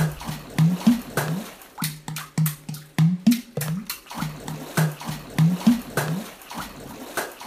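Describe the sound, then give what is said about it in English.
Hands smack the surface of the water in a bathtub, water drumming, in a quick, uneven drumming rhythm, each splashy slap sharp and loud, with a low humming tone running underneath. “When you get in a bathtub in a swimsuit, have your mom hold a microphone while you smack the surface of the water.”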